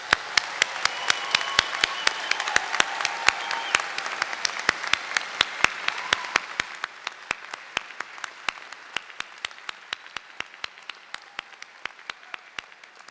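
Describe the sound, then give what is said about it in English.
An audience at a graduation celebration breaks into steady applause for the graduates, a dense wash of clapping for about six seconds that then thins and fades, with sharp individual claps cutting through until the end. No one speaks. “Let's have a round of applause to congratulate our graduates.”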